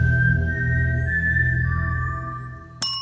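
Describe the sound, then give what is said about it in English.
Someone whistles the four-note Mockingjay tune from The Hunger Games film series, owned by Lionsgate Entertainment. It moves through G4, B-flat 4 and A4 eighth notes, then drops to a long held D4 half note in G minor, over a steady low background rumble and ending with a sharp click. “Lionsgate Entertainment owns this tune, described as, quote, a human whistling a G4 eighth note, followed by a B-flat 4 eighth note, followed by an A4 eighth note, followed by a D4 half note, in the key of G minor.”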